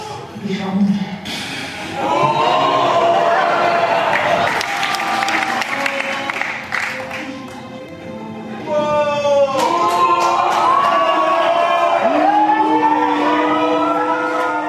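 audience clapping

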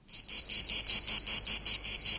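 cicada chirping

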